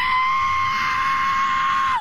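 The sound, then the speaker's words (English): A man's voice imitates the sound of a crashing F-35 stealth fighter jet that he saw crash, with a loud, steady, high-pitched screech held for about two seconds, dropping slightly in pitch as it cuts off. “This guy saw it crash and described the sound of the jet like this.”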